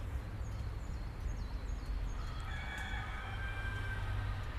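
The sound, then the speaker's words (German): A rooster crows once partway through, a drawn-out call, over a steady low rumble with faint bird chirps early on. “Nach dem Hahn stellt er das Uhrwerk.”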